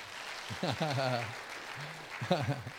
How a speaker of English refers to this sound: And some people wanted to clap. I would pause and give opportunity if you'd like to clap for my dad.